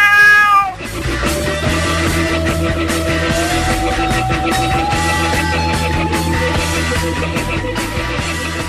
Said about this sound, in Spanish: Soy astuto y juguetón, y cazar un ratón es mi mayor afición. El gato.